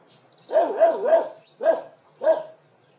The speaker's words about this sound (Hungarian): A kutyát? Szép kutya. És mérges. Nem szereti, ha bámulják. Igaz, Leo?